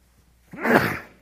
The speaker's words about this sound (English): Pardon me. I normally mute sneezes, but the mute button stopped working, so no point in trying anymore.